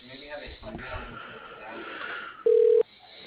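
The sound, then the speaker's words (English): Over a narrow telephone line, muffled indistinct voices murmur, then a single loud, steady mid-pitched ringing tone sounds briefly as the call is transferred to a voicemail. “I'll put you in his voicemail. Hold on.”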